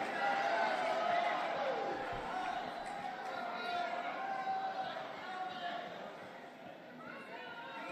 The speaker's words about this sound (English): This is where the Republican Party finds itself. It's booing the one sane guy who's willing to go up there and just tell some uncontroversial truths.